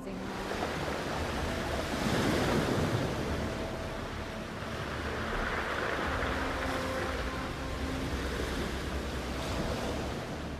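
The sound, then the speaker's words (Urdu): Ocean waves break and wash continuously onto a beach shore, a steady roaring surf with swells peaking around the middle, recorded on a mobile phone with some wind buffeting the microphone and no voices. “جب سمندر کی آواز ریکارڈ کرنے لگی”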